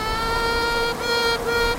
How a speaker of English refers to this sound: Queen bees also do something called piping. It's like a high-pitched buzzing whistling almost.